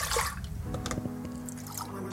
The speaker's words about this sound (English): Pouring the milk in cups into the pot.